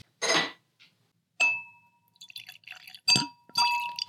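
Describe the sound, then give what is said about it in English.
Wine glasses clink together twice, each strike leaving a bright, high ringing tone that lingers, with a brief rushing noise at the start and light clattering in between. “Perfect, a little jingle bell there.”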